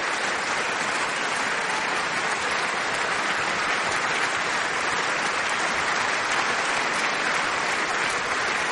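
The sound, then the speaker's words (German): Sustained applause from a large concert audience in a sold-out hall in Hannover, for the NDR Radio Philharmonie and conductor Eivind Hülberg-Jensen after a fourth symphony: a dense, even wash of many hands clapping without pause, steady in loudness with no voices standing out. “Und Eivind Hülberg-Jensen bedankt sich bei seinem Orchester der NDR Radio Philharmonie und bei dem Publikum im ausverkauften Saal hier in Hannover für diesen Abend, für den Applaus, für diese vierte Sinfonie.”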